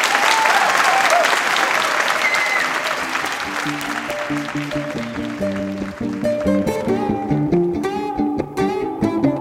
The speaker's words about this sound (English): So I'd like to have a warm round of applause